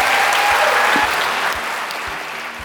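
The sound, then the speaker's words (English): A large audience applauds Ruby Wax and Julia Samuel steadily, a dense wash of many hands clapping at full volume that fades slightly toward the end, with no voices standing out. “That's all we have time for, but please can we give all a huge round of applause for Ruby and Julia.”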